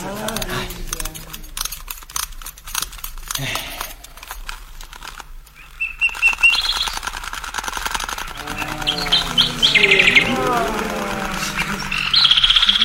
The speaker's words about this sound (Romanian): Și acum să fie arătată poporului privighetoarea de aur.